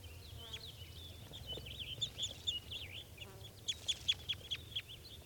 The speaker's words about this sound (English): So according to those birds are calling a little bit. They're just perched in a low spruce.